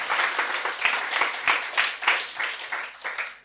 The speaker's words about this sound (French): Amen ! On peut applaudir Jésus !